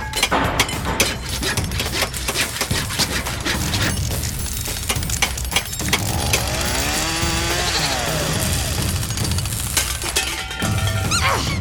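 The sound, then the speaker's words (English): Rapid, loud hammering and clanking of tools while building a machine, mixed with a whirring power-tool whine midway and scattered metallic crashes, like busy construction work. “I need the hammer. Hammer me. Oh, right. Here you go. Now, please be careful.”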